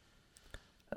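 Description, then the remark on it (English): A few soft computer keyboard key clicks tapping at an irregular pace, fairly quiet, with a slightly louder keystroke at the end and no talking. “you know what I have noticed since we switched back to OBS recordings is that I can hear my keyboard again, which I hope is not too annoying to people.”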